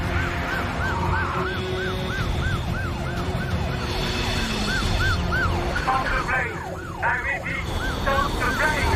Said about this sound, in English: Police vehicles approach and surround the plane.